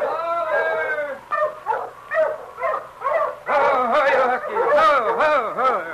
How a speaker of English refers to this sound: As Jenkins stood watching the great huskies circling, sniffing, and whining, he heard another dog team approaching from up trail.